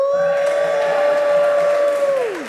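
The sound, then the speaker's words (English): A church young adult group cheers as a shout-out, with one loud, sustained whoop. It holds a steady pitch over a wash of noisy voices, then slides downward and fades out after about two seconds. “Let's hear a shout out from the young adults.”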